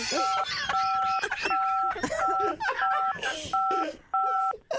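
Seven short dual-tone keypad beeps from a telephone button being pressed repeatedly by someone on a show sound in quick, slightly uneven succession while people talk over them, the tones clear and fairly loud.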